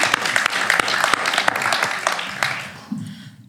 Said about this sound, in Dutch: Je bent daar zeker heel goed in. Applaus daarvoor. Echt wel.